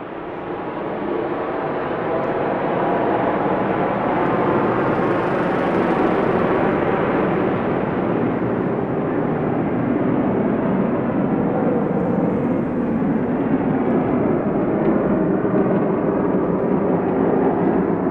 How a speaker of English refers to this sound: first heard this jet come over, was, I think I was in between recording, and it just made a huge kind of really massive wash of sound over everything, and that sound took over my whole like sensory environment, and then it faded